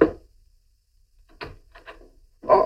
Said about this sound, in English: It'll probably be Mrs. Bronson down on the street. Nosy old Mrs. Bronson coming around just about now, pounding on the back door.